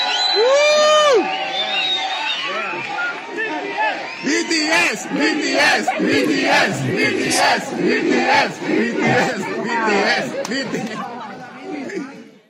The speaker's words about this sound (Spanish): El caso es que iban pasando unos jóvenes coreanos, X güeyes que venían de turistas y que estarán, supongo, el jueves en el partido, cuando los mexicanos les gritan esto.